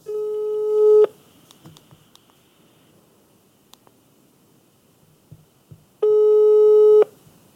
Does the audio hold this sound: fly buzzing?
no